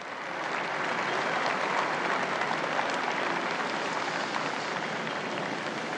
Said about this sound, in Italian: Sentite l'applauso dei pellegrini presenti in Piazza San Pietro, ecco Papa Francesco.